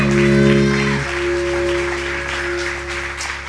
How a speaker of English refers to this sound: Hallelujah. Give the Lord a big round of applause one more time.